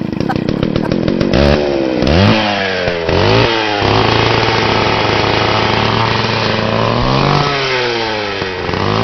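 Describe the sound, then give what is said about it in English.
A chainsaw sputters through a few rapid pull-starts, then catches and roars, its engine revved up and down in loud rising whines before settling into a steady, close-up drone. “And finally, German Chancellor Angela Merkel secretly recorded testing out a chainsaw before chopping a tree down in bondage kit.”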